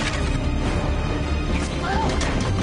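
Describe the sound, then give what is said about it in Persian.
A loud volley of gunfire from the second squad of a firing squad firing on command, heard as a dense, continuous crash of overlapping shots that fills the whole moment with little pause, with a voice faintly underneath. “دسته دوم شلیک.”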